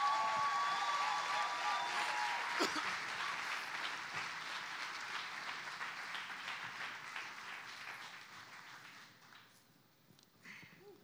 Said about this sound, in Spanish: Y quiero que reciban con un fuerte aplauso a mi papá,